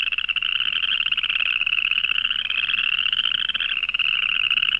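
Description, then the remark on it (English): A dense chorus of boreal chorus frogs calling continuously, rapid raspy trills overlapping like a fingernail raked over a comb, steady, with no voices. “But the boreal chorus frog sounds like a fingernail raked over a comb.”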